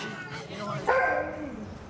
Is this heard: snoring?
no